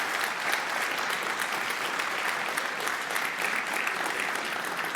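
Sustained audience applause, a dense steady wash of many hands clapping at an even level for the whole five seconds, with no voices over it.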